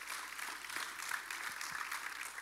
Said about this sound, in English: So can we just give a round of applause